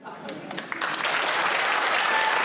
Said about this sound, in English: Stop clapping!